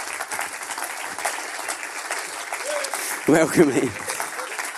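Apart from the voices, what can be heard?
audience applause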